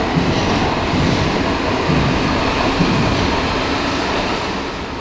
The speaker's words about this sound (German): Doch schon imposant, wenn man im Tunnel steht. Die U-Bahn fährt an einem vorbei, knapp einen Meter entfernt.